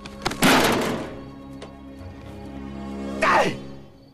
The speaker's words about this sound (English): He reels himself up and crashes against a sign reading, "Do not feed the bears."